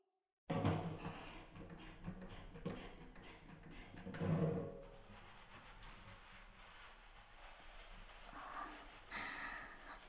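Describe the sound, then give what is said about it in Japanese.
Wet squelching and rubbing as body soap is worked into a foamy lather by hand, with irregular swells of sudsy friction and a couple of louder bursts. “今からボディーソープを泡立てるんで、ちょっとだけ待っててくださいね。”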